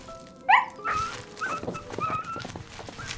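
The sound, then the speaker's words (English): Wolves poised to attack whimper and growl: a sharp, high whine bursts out first, followed by several shorter whimpering yelps over a rough, rumbling undertone, with no talking. “Just as the wolves were poised to attack.”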